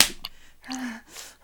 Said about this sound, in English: Of being slapped like a good slut, yeah? That's right, slut. That's how I like it.